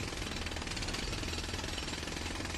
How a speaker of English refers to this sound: It might be related to all the construction that's happening across the street from us right now, but I would say jackhammers.